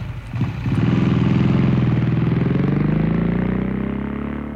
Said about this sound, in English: I'm a granny on a bike. But I don't worry anymore. I try to keep within the law. But you should hear this granny roar upon my motorbike.